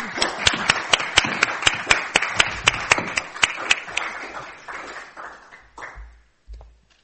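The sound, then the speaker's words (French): An audience applauds a speaker for his commentary on a text by Rousseau, with steady, dense clapping and sharp individual claps cutting through, fading out after about six seconds into a few scattered claps and quiet rustling. “Voilà, donc je trouve qu'on pourrait applaudir Laurent parce qu'il a fait un travail.”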